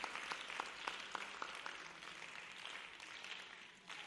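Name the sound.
audience clapping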